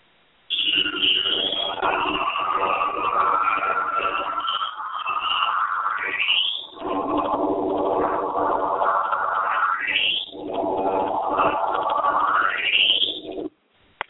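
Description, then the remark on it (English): A solar system recording raised about 12 tones, a continuous warbling, processed drone with babble-like, voice-ish textures and rising sweeping tones that climb repeatedly, dense and steady throughout before cutting off abruptly. “The interesting thing, though, is when it's raised up about 12 tones, it starts to sound like somebody's voices.”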